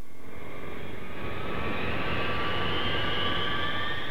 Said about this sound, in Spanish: En septiembre, un jumbo jet que realizaba su viaje de Nueva York a Seúl se desviaba por razones desconocidas de su ruta entrando en territorio soviético, donde fue derribado por un caza ruso, muriendo los 269 pasajeros.